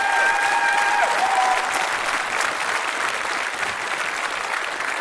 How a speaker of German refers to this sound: Und dann bitte nochmal einen riesengroßen Applaus. 3-mal die 10. Respekt.